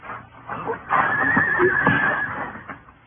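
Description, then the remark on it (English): A horse whinnies loudly, a long shrill neigh lasting over a second with a fluttering tail, surrounded by some faint background rustle. “I'll take my horse then”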